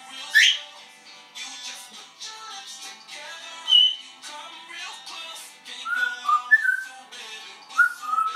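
bird, parrot whistling

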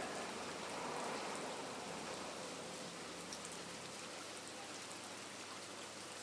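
nature, rain falling on surfaces

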